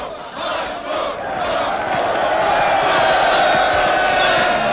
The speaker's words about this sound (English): … pumps his fist along with the crowd's chants.